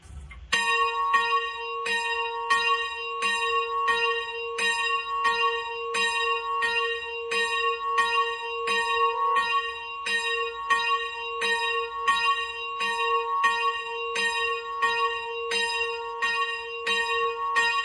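A single cemetery bell of Sárosfa in the Csallóköz, tuned to B and made by bell founder Liz Robert of Várhosszúrét, tolls steadily and loudly, its rich metallic strikes repeating at roughly two per second, each ringing tone overlapping the next with a lingering hum. No voices.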